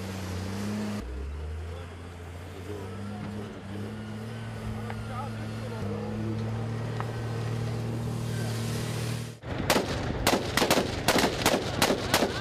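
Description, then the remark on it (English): A steady, droning vehicle engine rumbles for several seconds, then a loud string of rapid gunshots rings out, around eight sharp cracks in quick succession like machine-gun fire, as tanks and troops fire at suspected targets in urban fighting against Daesh near a swamp. “The sound of gunfire became louder as we approached the swamp.”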